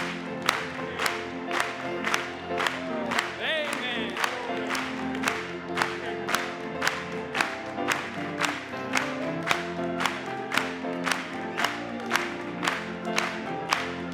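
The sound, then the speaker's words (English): An audience claps hands together in praise in a steady, even rhythm of sharp beats, over sustained organ-like music and crowd voices, with a brief high cheer early on and a short spoken word. “Let's clap it to him.”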